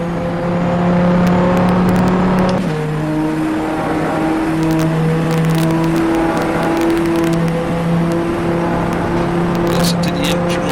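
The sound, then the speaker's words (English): A race car engine drones loudly and steadily, its pitch dropping briefly at a gear change before holding a sustained high whine as the car accelerates hard out of a chicane into the middle part of the Mulsanne straight. “Hard on the accelerator once again. We go into the middle part of the Mulsanne.”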